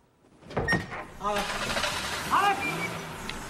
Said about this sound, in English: She climbs back in the car.